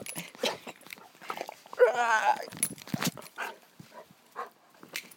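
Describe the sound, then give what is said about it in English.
A guide dog whimpers and snuffles, with a brief, higher-pitched whine in the middle and short sniffing bursts around it, while a person talks softly. “Hello, doggy. You had enough of that now.”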